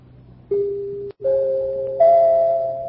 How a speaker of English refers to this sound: Ringing in the new year early, Harlow? Why, no, Hap. Those are only the three chimes. What three chimes? The three chimes a year an Autolite State full battery needs water in normal car use.